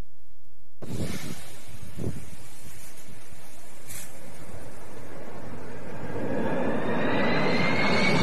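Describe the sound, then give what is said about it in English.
A firefighting airplane roars overhead, its engine noise swelling steadily louder toward the end with a rising whine, mixed with gusty wind rumble and a few low thumps early on. “That's what buys planes like that.”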